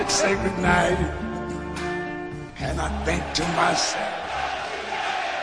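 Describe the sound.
A large crowd roars, cheers and applauds continuously and loudly, with shouts and whoops rising above a dense wall of voices.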